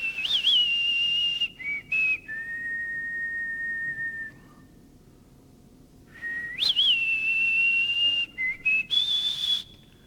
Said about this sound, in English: I love Westerns. And I love the whistle.